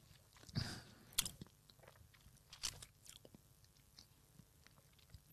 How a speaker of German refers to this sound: Nein, man nimmt natürlich einen schönen Schluck erstmal in den Mund, dann kann ich eh nicht mehr reden. Schlürfen.